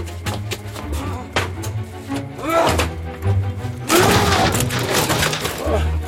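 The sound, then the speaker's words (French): A door is battered and forced open: heavy wooden thuds and a loud splintering crash, with muffled voices and shuffling in the background. “Enfoncez la porte.”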